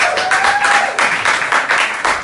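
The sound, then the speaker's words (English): An audience applauds steadily, many hands clapping in a dense, sustained burst that stays loud throughout, with a faint whistle-like tone briefly audible early on. “It's good to clap.”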